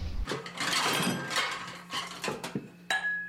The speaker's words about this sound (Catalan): Em sembla que és una ampolla de vidre quan se cau al terra.